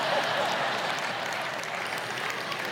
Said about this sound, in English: I don't know why you're clapping at that, but all right.